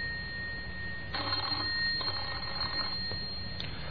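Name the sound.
telephone bell ringing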